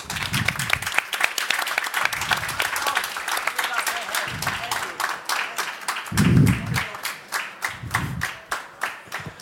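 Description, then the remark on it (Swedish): An audience applauds steadily, dense overlapping hand claps forming a loud, continuous wash of sound, with a few louder individual claps standing out toward the end, welcoming a guest professor from Åbo Akademi who is there to explain how human memory works. “En stor applåd för Julia Korkman!”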